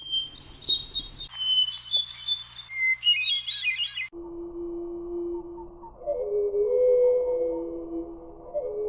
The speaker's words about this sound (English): Here's one that I've not heard in the wild. This is the North American hermit thrush. We're going to hear it at normal speed and then slowed down.